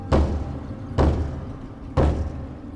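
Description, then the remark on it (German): Three slow, heavy knocks on a heavy wooden door deep underground at the end of a dark tunnel, evenly spaced about a second apart, each a deep booming thud that rings out briefly, fairly loud with no voices. “Da entdeckte Gustav im letzten fahlen Lichtschein eine schwere Holztür. Wer da wohl wohnen mag, so tief in der Erde? Er atmete tief ein und klopfte an.”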